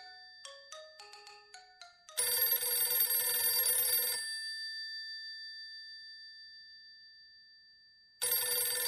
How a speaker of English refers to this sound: stop me if I'm wrong, but isn't that the telephone ringing? Say, that's strange. Now, I thought I heard something.